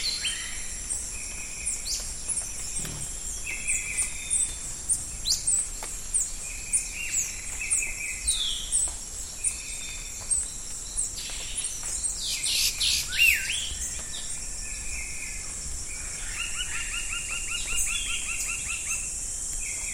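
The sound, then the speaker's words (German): A dense chorus of countless birds chirping, whistling and trilling, layered over a steady high insect drone, with no voices throughout. “Und, deutlich weniger bedrohlich, unendlich viele Vögel.”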